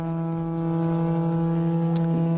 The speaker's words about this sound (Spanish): Y este es el sonido que nos llega de Moncloa. Es el sonido de la trompeta que llama a la meditación.